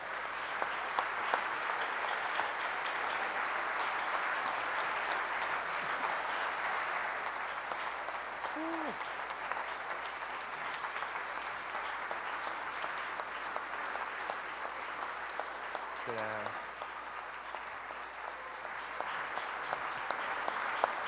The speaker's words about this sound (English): I pray that you are applauding God because of what God has done. I don't deserve any applause.